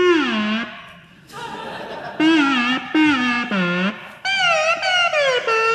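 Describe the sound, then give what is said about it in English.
An eerie electronic instrument swoops and wavers in several short, voice-like phrases, imitating someone saying hello. The tone is loud, with no other sounds. “People that are good at it can make it sound like it's talking.”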